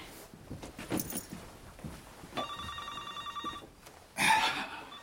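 A doctor's telephone rings with a bright, steady electronic trill lasting over a second, followed by a shorter louder burst of ringing, over faint background rustle and movement.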